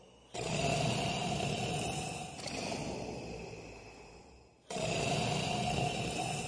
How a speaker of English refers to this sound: His snores echoed through the castle and grew louder. His snores rattled the houses in town and grew louder. His snores reached neighboring villages and grew louder.